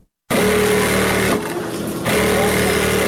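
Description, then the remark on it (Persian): Electric sewing machines whir loudly, a steady motorized hum that eases briefly in the middle before running at full speed again, with no voices, as girls who are school students sew clothes around a large table in a large tailoring class. “اینجا صنف کلان خیاطی است که دختران دور یک میز کلان با ماشین‌های برقی خیاطی لباس می‌دوزند.”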